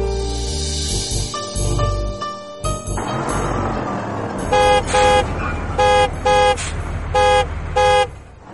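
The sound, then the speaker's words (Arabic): A car horn honks repeatedly in short, bright toots, roughly six quick blasts in an uneven rhythm, following a longer sustained horn tone over rumbling vehicle noise. “طريق طريق ابتعد، بيب بيب.”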